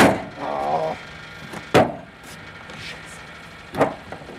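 A truck driver straightens the bent metal locking bolts of a trailer's doors with a crowbar: a scraping, grinding stretch, then two sharp, loud clanks a couple of seconds apart over a low, quiet background.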